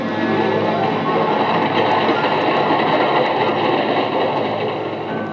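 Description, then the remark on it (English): A train rumbles loudly and steadily past at a railway station, a dense continuous roar of wheels and carriages with faint clattering throughout, no voices, easing only slightly at the end. “This is the story of Alec Harvey and Laura Jessen and a life lived in the commuter's section of a railway station.”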